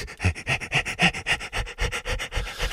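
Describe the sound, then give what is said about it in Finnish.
Quick, steady panting on an "E" vowel during a vocal breathing exercise, about ten short breathy bursts in an even rhythm. Each is a light voiced huff with a bright, airy tone, with no other talking. “niin saattaa olla, että nyt sinun palleasi on jo niin rento ja vapaa, että voit tuntea tässä läähätysharjoituksen aikana, mitenkä nämä eri vokaalit kehossa asettuvat.”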